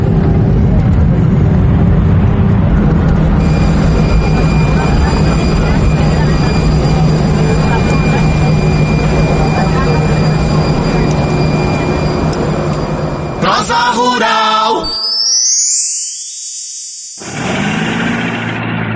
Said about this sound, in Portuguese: o avião vai pousar.